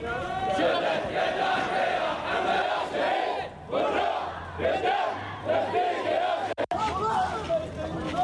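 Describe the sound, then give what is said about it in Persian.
A large crowd of protesters in the streets of Bahrain, supporters of Sheikh Nimr al-Nimr protesting his execution, shouts and chants together in loud, rhythmic waves of overlapping voices, the roar swelling and dipping, with one brief break near the end. “در بحرین حامیان شیخ النمر به جاده ها بیرون شده فریاد اعتراض را به خاطر اعدام او سر دادند.”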